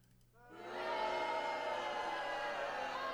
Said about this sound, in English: Got booing. Got crowd booing there, so. Dang, that's awful.